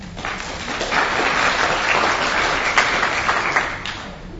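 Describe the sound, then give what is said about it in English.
A crowd applauds steadily for several seconds, a dense wash of many hands clapping at even loudness, with no voices heard over it, welcoming a speaker to a talk on regional e-portfolios. “You've got some online applause as well.”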